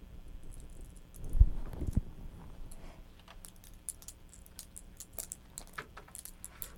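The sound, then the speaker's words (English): Metallic jingling and clinking of keys being shaken, an irregular run of small bright rattles after a soft thump near the start, moderately quiet, with no one talking. “You shaking the keys?”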